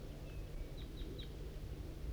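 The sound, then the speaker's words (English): Calls of a wild flock of crossbills coming from the east: three short, high chip notes in quick succession, faint against a steady low rumble, with a thin whistled note just before them. No one speaks. “Recording, it's 8:21 and a wild flock of crossbills is coming from the east.”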